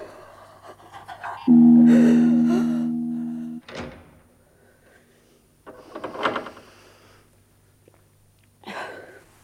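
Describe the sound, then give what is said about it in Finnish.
A heavy door slides or creaks shut with a loud, drawn-out groan ending in a solid bang, followed by a couple of separate metallic clunks as it is locked, with no talking. “Odota, minä panen oven lukkoon.”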